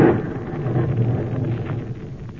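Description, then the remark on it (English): A thunder crash from a lightning strike quite near, likely on one of the copper beech trees, bursts out sharply, then settles into a deep, rolling rumble that stays loud and steady for a couple of seconds, with no voices. “Good heavens, that lightning must have hit quite near here.”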